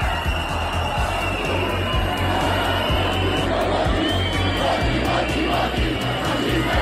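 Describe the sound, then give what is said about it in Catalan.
A large crowd shouts a loud, rhythmic chant of "voti, voti, voti, feixista, qui no voti" at Aliança Catalana leader Sílvia Orriols as she appears on the town hall balcony, the voices rising and falling in repeated pulses over a steady roar of noise that never lets up. “Crits de voti, voti, voti, feixista, qui no voti.”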